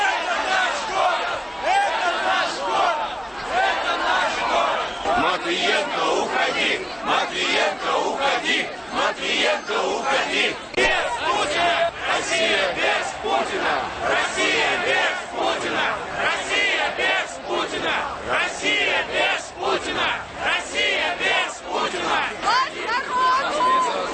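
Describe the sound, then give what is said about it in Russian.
A large crowd of a March of Dissenters protest shouts and chants "Elections!" continuously on Nevsky Prospekt, a dense, loud wall of many voices with rhythmic swells of chanting throughout and no pause, as the crowd blocks traffic heading toward Palace Square. “Несмотря на призыв организаторов марша идти по тротуарам, толпа вышла на Невский проспект, парализовав движение, и хлынула в сторону Дворцовой площади, смяв в очередной раз ОМОНовский кордон.”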